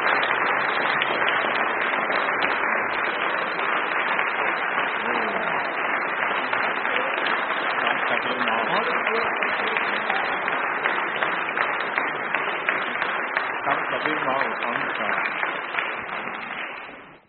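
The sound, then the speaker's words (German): Sustained, warm welcoming applause from a church audience, a dense steady clatter of many hands clapping for about seventeen seconds, fairly loud throughout before fading out at the very end. “Ja, ich glaube, jetzt werden wir Sie wirklich mit einem herzlichen Applaus begrüßen.”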